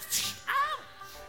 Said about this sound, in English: There's the whip sound, except there it is again.